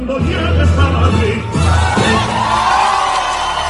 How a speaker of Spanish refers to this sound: Y ahí está la ovación de los invitados.